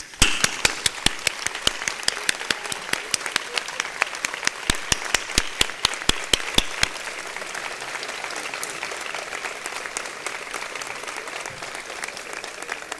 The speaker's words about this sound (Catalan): Un fort aplaudiment per la merescuda Creu de Sant Jordi que us han concedit aquest any.